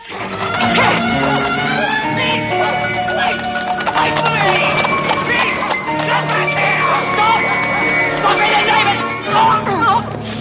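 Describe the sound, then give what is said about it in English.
A cab driver urges on his horses and the horse-drawn cab sets off with a steady clip-clop of hooves, partly buried under a busy music score and murmuring voices. “The cab driver chivvies his horses and sets off.”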